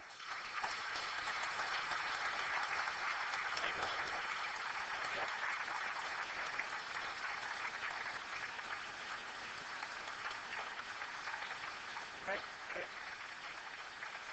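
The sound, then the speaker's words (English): Sustained audience applause thanking Professor Weinberg after the first public lecture at the new Perimeter Institute, a dense crackle of many hands clapping at a steady, fairly loud level for about fourteen seconds with no speech over it. “But before you do that, I ask you to please join me in thanking Professor Weinberg.”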